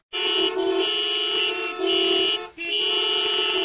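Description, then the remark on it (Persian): Street traffic with car horns blaring almost nonstop, long loud honks running into each other with only brief breaks. Harsh, with no voices. “کی گفت صدای ترافیک خیابونو بری تو؟”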